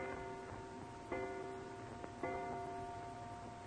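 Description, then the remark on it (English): A clock in the front hall chimes with a few soft struck strokes, each leaving a lingering metallic ring that overlaps the next. It sounds quiet, and no one speaks. “And you're still wondering about it as you hear the clock striking in the front hall.”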